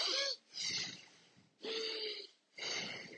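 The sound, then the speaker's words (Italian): Deep, audible breathing, with several long rushing breaths drawn in and pushed out in a slow, steady rhythm, like surf washing in and out. No one speaks. “E questo è come la risacca del mare. L'onda che va e che viene ed è collegata al nostro respiro.”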